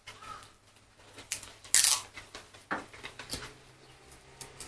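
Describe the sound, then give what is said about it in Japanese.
Adhesive tape being pulled off a roll and cut, a series of short rasping rips with one louder, sharper tear in the middle, and no talking. “そうしたらテープなくなる。”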